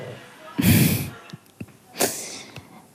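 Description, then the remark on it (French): A pet named Soja snores: two rough, snorting breaths about a second and a half apart, with faint clicks and soft rustling in the quiet between them. “Voilà, et vous pouvez peut-être même entendre Soja en train de ronfler.”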